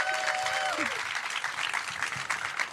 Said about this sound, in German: Applaus. Danke. Danke.